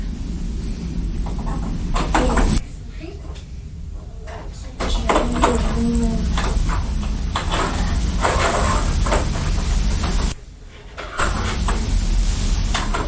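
A tractor pulling a big wagon rumbles past into a field opened by a man, its low engine drone steady throughout, with clanks and rattles over it and a thin high whine in the background.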